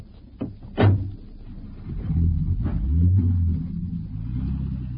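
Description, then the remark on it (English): A car door thuds shut, then an engine rumbles up and revs as the car pulls away in pursuit of another car, a steady low drone that stays fairly loud, with no voices. “Can you overtake it? I can try, sir.”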